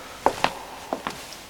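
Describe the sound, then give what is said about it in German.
Four soft footsteps land in two quick pairs, short muffled thuds against a quiet, empty background, of someone walking behind a man in a garage. “Waren da nicht eben Schritte hinter ihm gewesen?”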